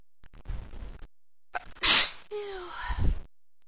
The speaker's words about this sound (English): Oh, never sneezed like this, not this much.